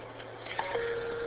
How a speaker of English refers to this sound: So, alright, I gotta scoot. I'm getting a phone call.